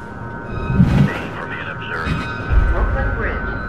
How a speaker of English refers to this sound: In the dark tunnel, the train speeds alongside empty tracks.